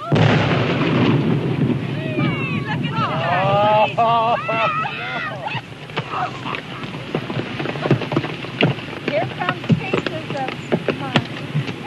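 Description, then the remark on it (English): A deep, rumbling blast as authorities blow up a dead gray whale with half a ton of dynamite on the beach near Florence, Oregon, fills the opening seconds; excited shouts and cries rise over the roar, followed by a scatter of sharp thuds and splatters of whale blubber raining down. “35 years ago today, authorities in Oregon blew up a dead gray whale on the beach near Florence with half a ton of dynamite.”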